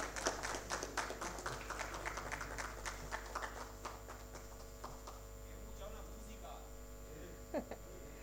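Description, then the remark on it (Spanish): An audience in Paraguay's Honorable Cámara de Diputados applauds Francisco Russo as he receives the Orden Nacional al Mérito Comuneros: a dense patter of many hands clapping that thins out and fades over several seconds, with a steady low electrical hum running underneath throughout. “Fuertes los aplausos para Francisco Russo, el juglar del heroísmo paraguayo.”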